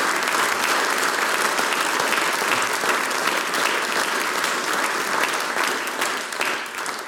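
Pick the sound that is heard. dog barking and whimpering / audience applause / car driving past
audience applause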